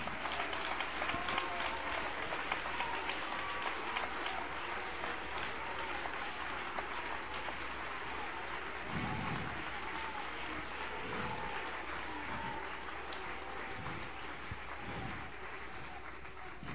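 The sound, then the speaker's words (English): A crowd applauds steadily, a dense wash of many hands clapping at even loudness for the whole stretch, with a few scattered low thumps and faint cheers mixed in. “Come on, applause.”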